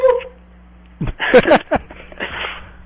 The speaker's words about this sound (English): Okay. Sound like someone going, oh! And then it was a dog, though. It sounded like a dog.